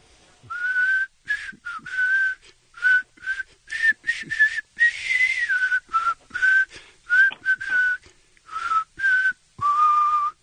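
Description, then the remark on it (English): A man whistles a catchy pop melody alone, clear, in short bright phrases with brief pauses between them, the tune rising and falling steadily for about ten seconds, for listeners to guess the song's title and artist. “is going to whistle a song that you'll hear if you win tickets to night number two.”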